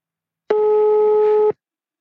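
A single telephone ringing tone as a call is placed to the Christkind post office in Himmelpforten sounds once, a steady, even mid-pitched beep lasting about a second before cutting off cleanly, with silence on either side and no voices.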